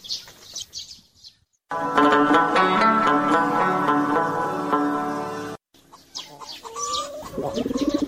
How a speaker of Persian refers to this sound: چرا تو غمار میزنی او کبوتر جان؟